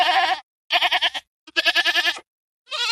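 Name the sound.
goat bleating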